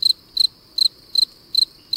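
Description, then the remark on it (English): A cricket chirps steadily by rubbing its wings together, six short high-pitched trilled pulses evenly spaced about every 0.4 seconds, clear over a faint low background hiss. “Crickets rub their wings together.”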